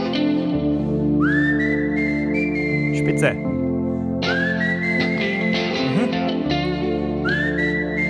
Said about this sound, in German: Also, kurze Info, die Gitarren brauchen wir nicht. Aber den Anfang vom Pfeifen können wir nehmen. Nur ein bisschen schneller, bitte.